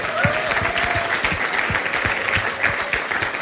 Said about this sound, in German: Und ich glaube, dafür können wir auch einen Applaus geben, oder?